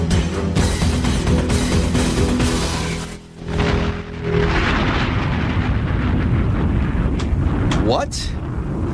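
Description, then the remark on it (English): A loud, sustained explosion sound effect, a thick roar and rumble that briefly eases before surging again, ending with a quick rising whistle-like sweep. “That was extraordinarily good explosion. Something changed with the explosion.”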